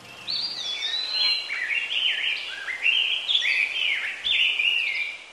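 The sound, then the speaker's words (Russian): Birds chirp and sing cheerfully over zigzag trenches and no man's land at a quiet front line, in a continuous, lively, warbling stream of high, sliding notes, clear, with no other sounds around them. “Над зигзагами траншей, над нейтральной полосой весело насвистывали птички.”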